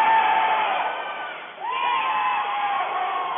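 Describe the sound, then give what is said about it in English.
A basketball crowd at a New Haven game roars during a one-and-one free throw with 2:36 to play, a steady, dense wash of cheering and shouting, dipping briefly partway through before surging back with rising whoops and continuing loud to the end. “Listen to the crowd.”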